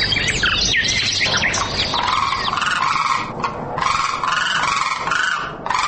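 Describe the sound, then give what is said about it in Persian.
A dense flock of common cranes, migratory birds, calling together, their loud, overlapping bugling cries rising and falling continuously, with no pauses. “در این برنامه در مورد کلنگ، یکی از پرندگان مهاجر که در 2 موقع سال ظاهر می شود، معلومات را تقدیم می کنیم.”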